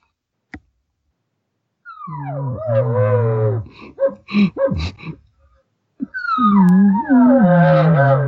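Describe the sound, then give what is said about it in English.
A bull elk bugle imitated on a bugle call: a sharp click, then a long wavering tonal call, a cluster of short squealing chirps, and another drawn-out, rising-and-falling bugle, loud with no talking. “And then with my bugle here, I'll give a few more.”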